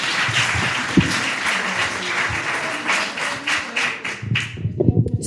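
A crowd applauds steadily, dense clapping for several seconds before tapering off, with a few louder thumps and murmurs near the end.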